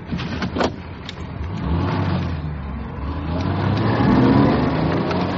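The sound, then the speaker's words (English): The engine of a car with registration UYT576J revs hard and rises in pitch as it speeds by, its roar building and then holding steady with no voices heard. “Ooh, he's in a hurry.”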